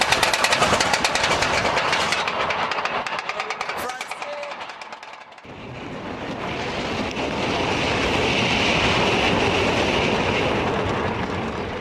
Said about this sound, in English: I wanted to show you that roller coaster ride because it's actually a very powerful analogy. The roller coaster with its ups and downs.